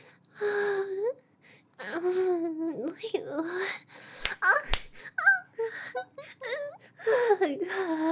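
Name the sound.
slap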